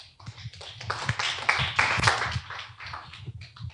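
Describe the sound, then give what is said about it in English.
A church audience claps hands together in a dense, continuous wash of overlapping claps, swelling louder in the middle before easing off, with no voices heard. “Clap your hands, friends.”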